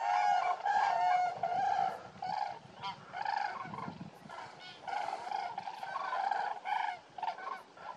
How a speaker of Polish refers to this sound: Gęsi się podrywają. Leci bielik. Żurawie się denerwują, wszystko ucieka. Ale zaniepokojenie. Ale hałas.